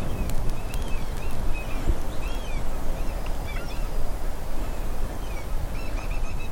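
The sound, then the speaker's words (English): Birds honk and call in scattered, short bursts as they fly over, their cries rising above a steady, loud rushing background that fills the whole clip. No one speaks. “There are birds flying over us, insects, small animals.”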